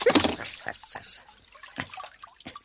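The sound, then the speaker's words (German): Water runs and splashes steadily, louder at first, with scattered drips and gurgles over a continuous watery hiss, as though a tub is overflowing. “Wo kommt denn nur das viele Wasser her?”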